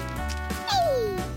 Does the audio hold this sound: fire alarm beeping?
no